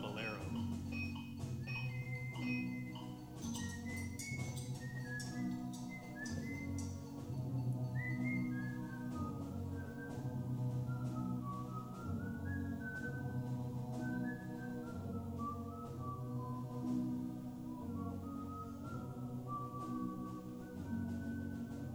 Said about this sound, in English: In Morocco, amid the exotic scenery, strange, endless scales, and the wailing of the mullah calling the faithful to prayer, my brother was surprised to hear a young man whistling.